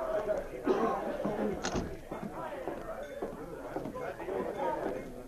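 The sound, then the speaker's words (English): A cafe door is opened by a sergeant going inside, with a single sharp knock partway through, while a room full of people chatters steadily in the background. “So he opened the door and went inside.”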